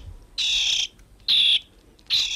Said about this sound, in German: Ein Vogel, einer, der gut Geräusche nachmachen kann, der Star. Wenn der nicht gerade Geräusche nachahmt, dann hört er sich so an.